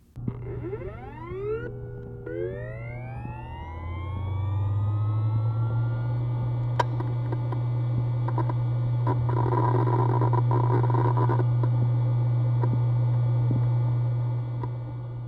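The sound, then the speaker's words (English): An external hard drive picked up through a contact microphone spins up with rising whining tones, then settles into a steady low hum with clicks and a faint high whine, with no talking. “the sounds of an external hard drive with the contact microphone.”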